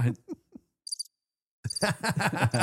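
cricket chirping sound effect

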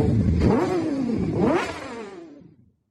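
motorbike engine revving

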